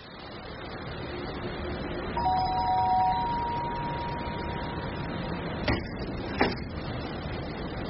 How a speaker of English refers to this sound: You wouldn't ring my bell for us, would you?